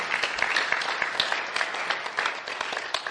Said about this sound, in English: I think a round of applause is suitable for this.